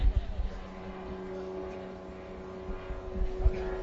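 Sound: airplane flying overhead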